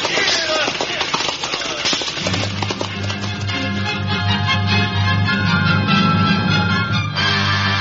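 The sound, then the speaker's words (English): Horses' hooves clip-clop in a steady rhythm on the London road, fairly loud, before a sustained low musical drone swells in and carries on beneath the clatter. “The London road stretched out under the horses' feet.”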